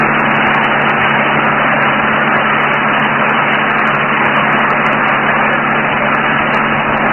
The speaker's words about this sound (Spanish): El auto cruza por una extensa zona cubierta de polvo. Calimán y el pequeño Solín, asidos a la parte posterior del vehículo, hacen esfuerzos por sostenerse en aquella incómoda posición.